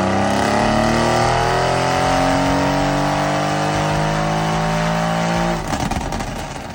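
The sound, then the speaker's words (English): A car strapped down on a dyno, fitted with gold Wassons, roars at full throttle, its pitch climbing steadily through the revs for several seconds before cutting off abruptly into a rough, crackling wind-down. Loud, with no talking. The run made 900 brake horsepower and 1279 newton meters of torque. “so I'm strapping this car down to see what it does.”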